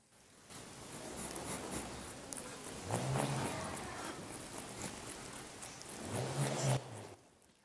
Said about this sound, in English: So this is called a bull roarer, like a bull roaring, a bull roarer, and it's kind of a traditional instrument that I guess some cultures have used to communicate over long distances.